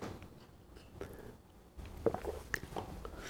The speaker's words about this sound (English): This podcast is a little like having tea with me. I have to keep stopping and having a sip of tea.